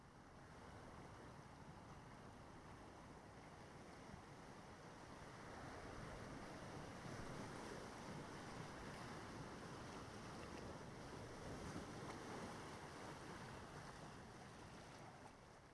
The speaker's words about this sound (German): Während du weitergehst, hörst du schon hier und da die Rufe der Möwen und das Rauschen der Wellen kommt immer näher.